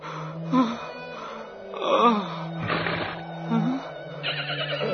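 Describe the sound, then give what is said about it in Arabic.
A horse in a desert neighs and whinnies several times in uneven bursts, moderately loud, with a steady low hum beneath and no voices. “ما بك أيها الحصان؟ أتحاججني أم توافقني الرأي؟”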